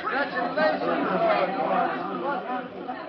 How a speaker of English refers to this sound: Jubilantly, Perry White, Jimmy Olsen, employees of the Daily Planet, and spectators crowd around Lois, congratulating her on her complete vindication as Superman and Robin slip from the courtroom.